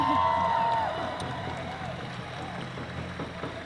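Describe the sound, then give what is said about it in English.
A crowd cheers and claps in a dense, noisy swell, with a high whistle-like tone in the first second. The din eases slightly, then carries on steadily to the end. “Yeah, cheer her.”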